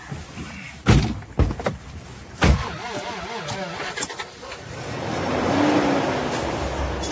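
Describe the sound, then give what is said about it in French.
A few heavy car door thumps in quick succession, then an engine starts up and the car pulls away, its engine and road noise swelling steadily. “On part en voiture.”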